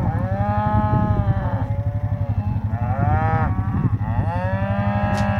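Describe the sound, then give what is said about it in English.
A cow moos loudly, three long, drawn-out calls in quick succession, each with a rich, droning tone that rises and falls, with no voices present. “To me, it just sounds like a normal cow.”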